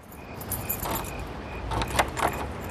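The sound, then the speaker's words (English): At nighttime, a key is taken from under the mat and the front door of a large, dark house is unlocked: keys jingle and rattle with a few bright metallic clinks, then a short scraping as the lock is worked, against a low steady hum with faint insect chirps. “He approaches a large house which is in darkness and stoops to take a key from under the mat to open the front door.”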